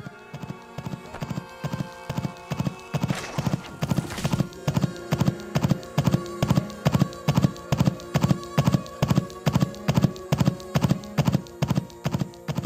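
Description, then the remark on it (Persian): Horse hooves clip-clop in a steady, even rhythm as a rider sets his horse moving past guards at a guard post in the desert, each step a sharp, hollow knock repeating without pause over a faint background hiss; a brief rustling noise swells in the middle. “و اسبش را به حرکت درآورد، از میان نگهبانان گذشت، از میان تهدیدها عبور کرد و خود را به خیمه های امام رساند.”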